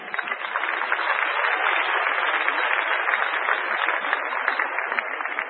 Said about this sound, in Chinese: 好，我们掌声欢迎他。